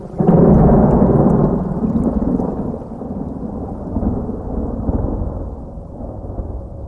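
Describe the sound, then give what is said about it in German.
A loud, deep thunderclap opens and rolls on as a long rumble, with steady rain hissing underneath throughout. No voices are heard. “Wir hatten das Gewitter gar nicht kommen sehen.”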